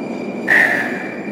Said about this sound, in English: Here's one train right here.